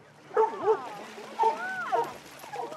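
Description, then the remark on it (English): Labrador and retriever dogs at a pond bark and yip in several short, high-pitched bursts spaced irregularly, with a low steady hum underneath, as they jump in and out of the water. “The labs and retrievers are having a total blast at the pond.”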